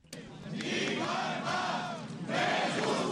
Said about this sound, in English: Around 100 of Catalonia's firefighters, shouting freedom for political prisoners, gathered today in Barcelona to protest against Article 155.